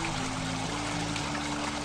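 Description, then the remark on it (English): Water pours steadily into an overflowing cup, a continuous splashing trickle lasting about two seconds with no voices. “The other cup is full and overflowing with toxins.”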